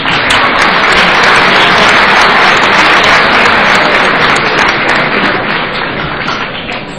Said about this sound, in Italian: che è il responsabile di centro di calcolo del Dipartimento, che vi prego di accogliere con un applauso.